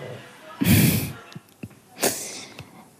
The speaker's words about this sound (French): Voilà, et vous pouvez peut-être même entendre Soja en train de ronfler.